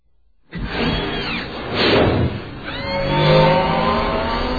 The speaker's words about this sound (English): Then with a sober nod, he slung his leg over the city bike, kicked it into life, and shot into the Coruscant sky without looking back.